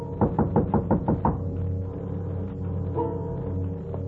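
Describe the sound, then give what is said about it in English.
A quick series of about seven firm knocks on a door in an even rhythm, then stopping and leaving a low steady hum in the background. “Someone's at the door.”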